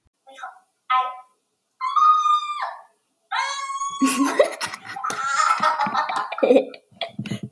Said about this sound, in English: Here, I just start yelling out of nowhere. Crazy, right?